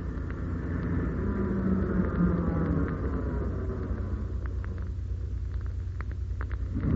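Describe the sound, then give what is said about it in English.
A lorry's heavy engine rumbles as it drives past the end of a track, going straight on without stopping, a deep, steady drone that holds fairly level throughout, with faint rattles and clicks toward the end and no voices. “They've just gone past the end of the track. They're going straight on without stopping.”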